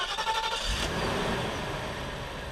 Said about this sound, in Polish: Jak na stole leży wszystko? Nic się nie rusza. Nie, to jest 500 obrotów tylko. Normalne samochody teraz mają 800 obrotów na wolnych, a ten ma tylko 500. To jest niebywałe i stan tego silnika, chociaż ile on ma lat już? To jest 93 rocznik,